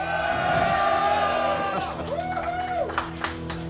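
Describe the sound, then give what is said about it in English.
A loud crowd in Kopervik cheers and whoops after being greeted from the stage, shouting voices swelling together, then the roar eases into scattered claps and a few sharp yells near the end. “I can just say three words and they are cheering.”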